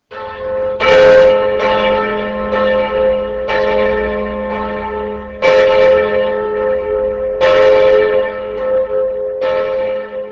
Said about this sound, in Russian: На Чистый четверг церковные колокола звучали в последний раз, и снова их звук раздавался только после воскрешения.